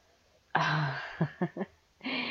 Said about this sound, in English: You're breathing really hard, babe. You okay?